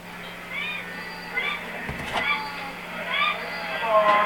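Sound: flock of sheep bleating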